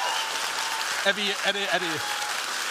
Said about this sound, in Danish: Og hvis I vil høre det, som coronaskeptikere kalder alternative fakta, så skal I, klappe nu.